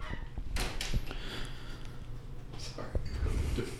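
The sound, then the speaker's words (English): Doors thump open and shut a few times while a couple of children run around in and out of doors, with soft indistinct voices and rustling in the background; the sounds are fairly quiet. “For all of our listeners, we have a couple children running around in and out of doors, so ignore that on the final edit.”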